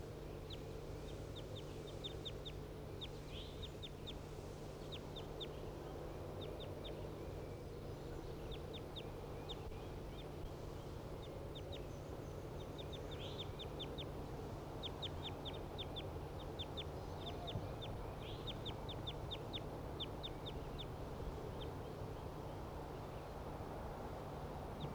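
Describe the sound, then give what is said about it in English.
A wild bird right above some cages calls over and over in quick bursts of high, thin chirps for the whole stretch, above a steady low hum and murmuring background. No one speaks. “The wild bird right above the cages.”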